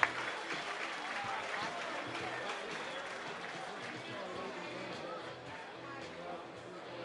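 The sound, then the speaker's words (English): A large stadium crowd at a baseball game applauds and cheers steadily for several seconds as the starting pitcher leaves after 5 2/3 innings, a dense wash of clapping and voices that slowly eases off. “And listen to the crowd.”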